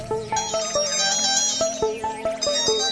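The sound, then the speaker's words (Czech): A mobile phone rings at the end of a Svobodný vysílač broadcast, a bright, repeating electronic melody of quick high tones in a steady rhythm, playing on loudly without any talking. “Tak, teď tam někomu zvoní telefon na závěr ještě.”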